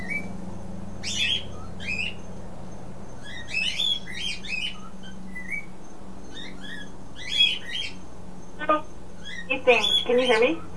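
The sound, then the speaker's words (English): A bird chirps noisily in repeated bursts of high, quick tweets, with a louder flurry of calls near the end over a steady low hum. “The bird got noisy at this end.”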